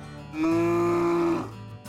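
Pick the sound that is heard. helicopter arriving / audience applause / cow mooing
cow mooing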